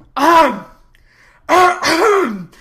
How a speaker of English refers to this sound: Enter Merriman. When he enters, he coughs loudly, seeing the situation.